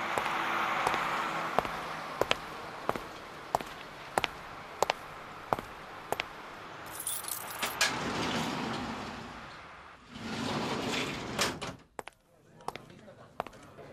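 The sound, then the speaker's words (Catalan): A door is unlocked with keys and opened, presented as the door of the radio programme El Club de la Mitjanit, opened on 7 September 2009: a steady series of sharp metallic clicks, then rattling and a broad scraping rush as it swings, ending with a few loud clacks. “Bona nit, doncs ja ho han sentit, és la porta del Club de la Mitjanit.”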